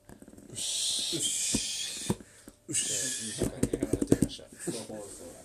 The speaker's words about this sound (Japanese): だって、いびき入ってるからね。 いびき、確かに。 いびき。